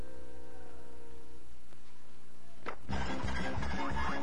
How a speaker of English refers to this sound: Okay, the second job is breaking up concrete with this 110-pound jackhammer.